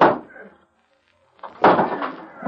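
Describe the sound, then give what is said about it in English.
A heavy locked door is smashed open: one loud crashing blow fades into a brief silence, then a second, longer burst of splintering, rattling impact noise follows. “Never mind the lock. Smash that door.”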